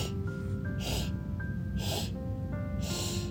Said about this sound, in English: We'll take a breath in and out, a nice normal breath, and then we'll give this a try. So when you're ready, you're going to sniff in.